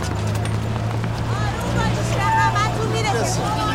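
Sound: crowd commotion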